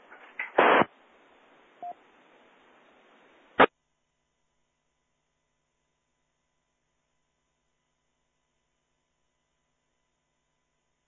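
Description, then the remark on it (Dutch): A few seconds of hissing radio static with a couple of louder crackling bursts, a faint, brief signal barely poking through the noise, then the sound cuts off into silence. “Oei, ik hoor een signaal, maar dat is heel diep in de ruis.”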